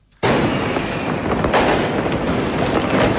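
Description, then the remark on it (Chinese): Fireworks burst at a New Year's Eve celebration at Changchun Ice and Snow New World, China, on the last day of 2024, in a dense, continuous barrage that starts abruptly after a brief silence, loud crackles and pops overlapping throughout with a few sharper bangs standing out. No voices are heard. “2024年最后一天，绚丽的烟花在长春冰雪新天地绽放，众多市民游客在火树银花、璀璨冰雪中共同迎接新年的到来。”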